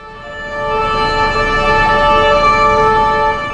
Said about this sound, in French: On entend une sirène de police. Puis une autre. Puis d'autres.